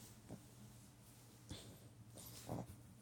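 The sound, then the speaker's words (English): Faint puppy noises on a bed: three brief snuffling, whimpery bursts spaced about a second apart over a low steady hum, quiet, with no talking. “Stop it, silly puppy.”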